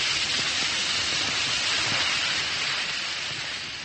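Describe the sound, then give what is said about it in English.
A steady hiss of dense fizzing as one or two Alka-Seltzer antacid tablets dissolve in a glass of water, with fine crackling bubbles that hold constant and ease off slightly toward the end. “Just drop a tablet or two into a glass of water like this. Listen to it fizz.”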